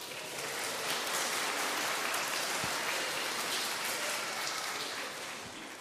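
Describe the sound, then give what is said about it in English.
A crowd claps together after being asked to clap if they are excited that tomorrow is Christmas. It is a dense, steady wash of applause, many hands blending into a crackling roar that holds for several seconds before easing slightly at the end. “Clap. Give me a clap.”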